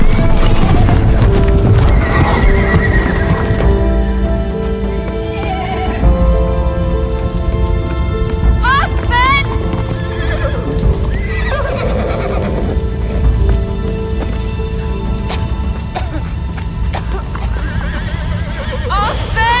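Wild horses whinny and neigh repeatedly over a steady, dense rumble of hooves as the herd flees a bush fire, loud, with shrill cries rising above the continuous drumming of galloping.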